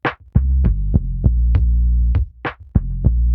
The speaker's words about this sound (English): What were you hearing during your days in hospital? The sound of the air conditioner and also the sound of the negative pressure. The negative pressure, it's like an engine, it's like a small engine. So it goes on like every single day.